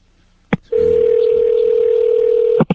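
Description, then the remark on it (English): A loud, steady payphone dial tone at a supermarket, heard as someone tries to place a call, humming on one low pitch for about two seconds, framed by a sharp click just before it starts and another as it cuts off. “Right now, I'm trying a payphone, and I can tell it's a payphone.”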